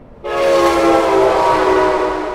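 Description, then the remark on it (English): A loud train horn blares suddenly a few feet from a home's door, a sustained multi-tone chord that holds steady for a couple of seconds with no voices. “here's what it sounds like just a few feet from Nancy and Justin's door”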